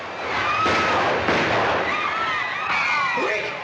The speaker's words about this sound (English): He walks to the door, then dashes past the guards and pulls the door shut. When they open it, he fires a warning shot.